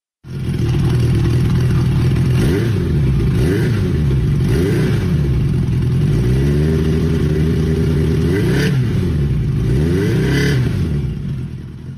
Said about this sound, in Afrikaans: hy wil gou 'n rit vat op hierdie 1980 CB750